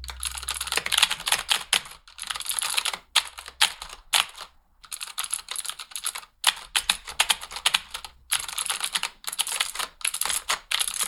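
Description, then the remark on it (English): An imitation of someone's typing: frantic, fast clattering on a computer keyboard, as if typing a couple of words and then flapping hands wildly at the keys, in dense bursts separated by a few brief pauses, with no talking. “It just had a quality of feeling like she would type a couple words and then just flap her hands at the keyboard.”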